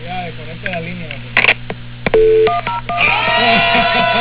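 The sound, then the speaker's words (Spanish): A quick run of telephone keypad dialing tones, several short beeps in steady rhythm, mixed with a humming line and background voices over a narrow, phone-like sound, as a call is placed to Venezuelan president Hugo Chávez. “Llamando al presidente de Venezuela, Hugo Chávez.”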